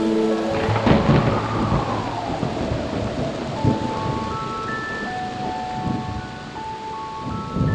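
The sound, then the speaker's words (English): Steady rain hisses throughout while deep thunder rumbles and rolls loudly, with faint sustained musical tones and a gliding note layered beneath the storm. “I want to go out and play, but it's raining out today.”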